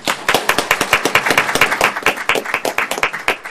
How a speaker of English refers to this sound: Thank you. Very well done. Thank you. Let's have rounds of applause for this part.